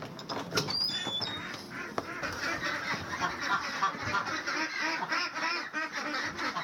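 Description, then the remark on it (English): A flock of pastured ducks raised for eggs quacks continuously and noisily at 7 a.m. on a ranch in Vintondale, Pennsylvania, as they are let out and fed, many overlapping calls forming a dense chorus, with a few high bird chirps near the start. “It's 7 o'clock in the morning and time to let the ducks out.”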